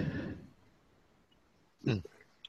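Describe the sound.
A voice trails off, then after a short quiet pause a single sharp cough bursts out, followed by a faint catch of breath.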